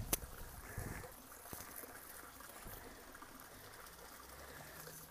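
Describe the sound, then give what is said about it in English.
A stream trickles and babbles steadily, a continuous wash of running water with a brief knock near the start and no voices. “Right, let you hear the running water one more time.”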